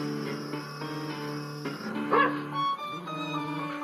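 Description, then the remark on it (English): A dog barks and yips in a continuous run of sharp, tonal cries, with one louder burst partway through and no one talking. “This morning I heard our dog barking, and through the trees I saw a small, slim woman of about 40 riding up on a donkey and carrying a revolver.”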